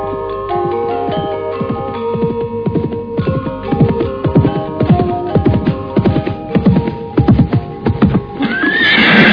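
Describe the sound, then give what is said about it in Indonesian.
A horse neighs over a steady run of clopping hooves, the hoofbeats thudding rhythmically throughout, with a faint background hum and a brief rustle at the end. No one speaks. “Mengapa kalian turun dari kuda?”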